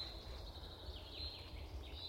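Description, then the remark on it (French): Faint birdsong in a very quiet forest, thin high chirps and trills that rise and fall over a low steady rumble, with no voices. “Reposant, même s'il y a du bruit d'oiseaux. Les oiseaux, c'est pas un chant agressif.”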